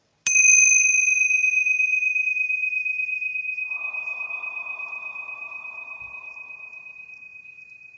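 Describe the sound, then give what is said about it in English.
Tingsha bells struck once with a bright, sharp chime, their high, pure ringing tone sustaining and slowly fading over several seconds, heard alone without any talking. “we're going to go ahead and clear out any negative energy and raise the vibration with our beautiful tincture bells.”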